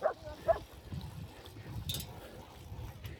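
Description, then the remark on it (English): A filthy dog out on a walk gives two short, high yelping barks with a whiny edge right at the start, then falls quiet over a steady low outdoor rumble. “That dog was filthy. Looked like he'd been having a great time.”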